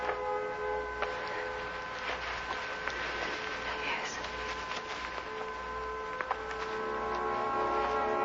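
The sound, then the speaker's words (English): A civil defense siren drones at a steady, held pitch with layered tones. It sustains at moderate loudness for the full stretch over a low rumbling background, with no one talking. “And that siren means you go.”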